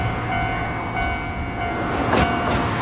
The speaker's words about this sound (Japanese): 電車はね新海地方面にに向かう電車やね。 上り ですね。上りですね、 はいはい。